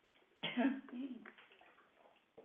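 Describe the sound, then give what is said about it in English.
Water splashes and pours for about a second, fairly loud, as a person gets water to drink, then fades into quieter rustling, with a brief soft knock near the end. “Hold on, let me get water.”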